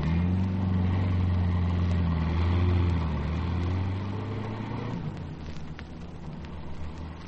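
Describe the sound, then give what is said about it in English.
A car engine rumbles steadily, then its drone recedes, growing fainter as the vehicle drives off down the street, leaving a quieter background. No one speaks. “you take the car down the street about 50 yards and sound the old horn again if anything looms up.”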